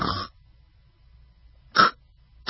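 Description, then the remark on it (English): A person imitates sleep apnea snoring: a short, harsh snort, then a long silent pause, followed by two abrupt gasping snorts. “Right, that sound, that's what sleep apnea sounds like.”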